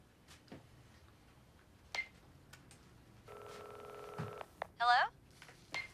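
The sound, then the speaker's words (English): A man in a tidy kitchen makes a mobile phone call: a few soft screen taps, then a steady electronic ringing tone for about a second, followed by a short warbling chirp, fairly quiet. “stands in his tidy kitchen area with his mobile phone, psyching himself up to make the call. He goes for it.”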